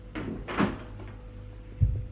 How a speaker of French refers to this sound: La porte de la chambre qui s'est ouverte